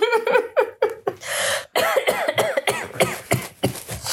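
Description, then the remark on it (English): A loud fit of coughing by a person who is dilating: a rapid string of harsh, voiced coughs, a longer raspy wheezing breath partway through, then more choppy coughs until the end. No one speaks. “And I'm about to cough, so for your editing pleasure.”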